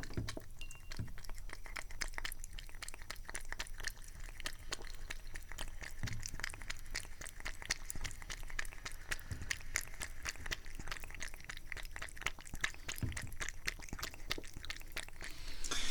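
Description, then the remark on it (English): A cat laps drinking water, a fast, steady run of small wet clicks and slurps that keeps an even rhythm throughout, with no voices. “Yes, the thrilling sounds of the thirstiest cat in the world drinking kitty water.”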